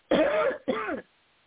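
Two loud bursts of coughing and throat clearing, one after the other, each about half a second long, then quiet.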